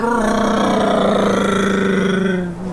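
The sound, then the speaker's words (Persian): A loud motorcycle engine whines steadily for a few seconds, its buzzing tone dipping slightly in pitch as it rushes past and begins to fade. “الان فرض کن یه خانومی روی موتور از اون دورا داره میاد.”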